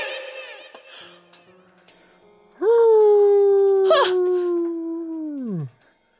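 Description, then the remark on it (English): Softer whimpering yelps lead into a single loud, sustained howl from a wolf inside a castle. It holds a steady pitch for about three seconds before sliding downward and cutting off, clear. “More than a wolf and a kitty cat? Oh, a wolf followed me in here.”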